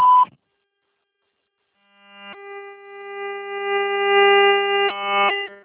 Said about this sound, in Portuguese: Por favor, deixe sua mensagem após o sinal.